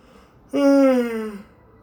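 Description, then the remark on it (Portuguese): A single drawn-out yawn, fairly loud, with a voiced tone that slides gradually downward in pitch for about a second before trailing off into quiet. “Tô bocejando aqui no filho da puta.”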